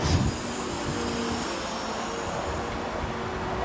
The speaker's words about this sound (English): These sounds are a crane and the man lift backup alarms. The sound of the crane extending its boom.